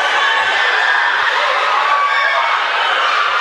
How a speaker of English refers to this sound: She'll pull a three. That goes. What a shot from Browse. And the crowd roars.